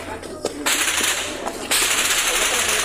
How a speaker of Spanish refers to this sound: En otro video difundido en redes sociales, pobladores de Chiapas se tiran al suelo en fuego cruzado. Para arriba, aquí no hay dónde salir. Aquí no hay dónde salir, jefe, para arriba. Nada más agáchense, agáchense, porque aquí están pegando los tiros.